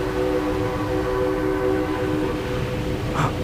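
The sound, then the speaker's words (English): A train sounds continuously, its steady horn-like tones held over a low rumbling drone for the whole few seconds, fairly loud and even, with no one talking. “I thought it was a sea train.”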